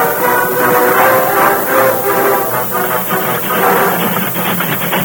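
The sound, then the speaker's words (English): A train runs along the rails with a loud, steady rumble and a rapid, rhythmic clatter of wheels, continuous throughout, with no voices. “Stop that train. What's the racket? Stop the train, I tell you.”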